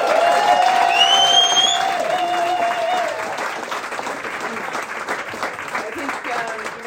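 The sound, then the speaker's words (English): A crowd applauds Mary DeBarra, the running coach of the Ballymore Cove runners. Whistles and cheers rise over the clapping at first, then the dense applause continues and gradually thins slightly toward the end. “Yeah, let's have a round of applause for Mary DeBarra.”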